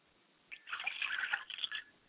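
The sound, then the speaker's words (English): Liquid is poured out as a libation toward the south in a short, quiet trickle that splashes and drips for about a second and a half, then stops. No one speaks. “Finally, I pour libations to the south, and I say Ashe.”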